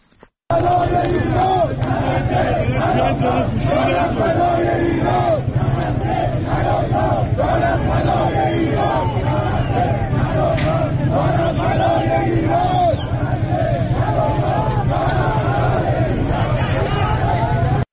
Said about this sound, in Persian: در ویدیوهای دریافتی از بازار میوه و تره‌بار تهران، معترضان شعار می‌دهند نه غزه نه لبنان، جانم فدای ایران.